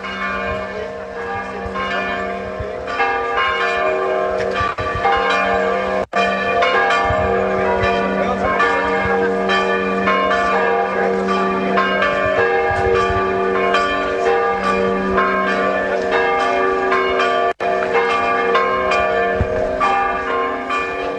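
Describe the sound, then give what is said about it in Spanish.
Church bells ring out continuously, a dense, overlapping peal of many strikes with rich ringing overtones, loud and steady throughout, with no voices. “Efectivamente llega acá las autoridades, escuchamos que hay campanadas.”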